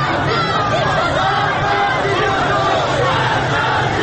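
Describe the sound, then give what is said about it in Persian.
A large crowd of protesters marching in the streets, shouting and clamoring together as the march draws nearer, a dense, steady roar of many overlapping voices that stays loud throughout, with no single words standing out. “صدای فریاد راهپیمایی کنندگان نزدیکتر و نزدیکتر میشود.”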